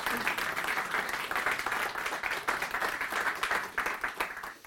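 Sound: small audience applause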